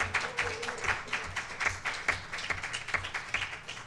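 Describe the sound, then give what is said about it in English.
A crowd applauds with a steady patter of many hands clapping, dense overlapping slaps at a moderate level throughout, with no voices standing out. “Yeah, you can clap.”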